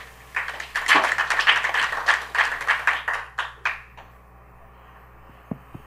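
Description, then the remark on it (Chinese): A room full of people applauds to welcome a speaker to a morning presentation, dense overlapping claps building quickly then thinning into scattered last claps over several seconds, with a few faint taps at the end. “掌声欢迎”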